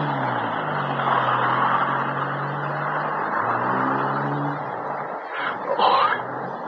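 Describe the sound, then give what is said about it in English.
Hicks' car turns the corner, its engine droning steadily over a constant hiss, the low hum sliding up and down in pitch as it turns, with a brief louder rush near the end. “There's Hicks' car turning the corner.”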